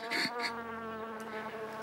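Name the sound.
fly buzzing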